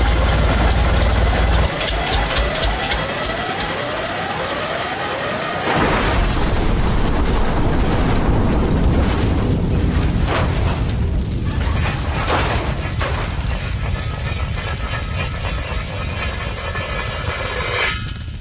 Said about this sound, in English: The air is packed with sap. Our chopper is slathered with maple syrup. We're going down.